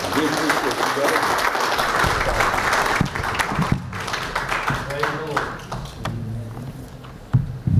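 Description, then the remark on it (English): A church audience claps steadily for a man as he comes up to minister, a dense, sustained wash of applause, with voices and a few thumps mixed in before the clapping thins out near the end. “give him a good hand clap as he's coming.”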